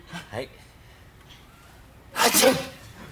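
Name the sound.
a person sneezing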